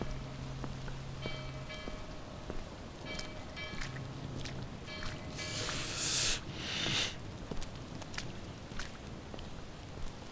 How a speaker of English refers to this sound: Rain.